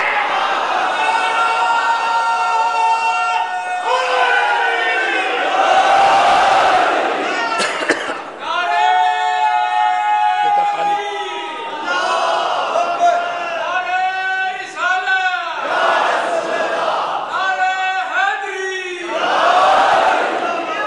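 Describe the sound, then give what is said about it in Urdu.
A large crowd chants the slogan "Ya Ali" in loud unison, repeated in rhythmic bursts with short breaks between phrases, the many voices merging into a strong, sustained roar. “عزیزو یاد رکھنا, یاد رکھنا, یہ نعرہ اتنا آسان نہیں.”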